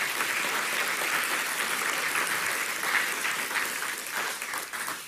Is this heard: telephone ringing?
no